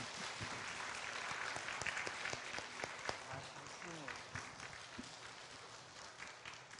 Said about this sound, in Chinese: 我们要用热烈的掌声来表示欢迎。